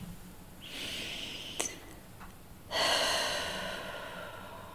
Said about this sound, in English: So let's just take a breath together, first of all.